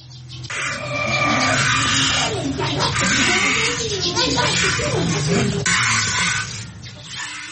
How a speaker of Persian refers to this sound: در این مورد با صدای جریان دوشیدن شیر گاو آغاز می شود.